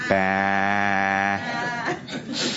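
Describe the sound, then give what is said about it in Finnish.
A crowd of people imitate sheep with one long, loud, sustained bleat lasting over a second, then break off into scattered murmuring and light laughter. “Jokainen, joka on lammas tänään, saa sanoa bää.”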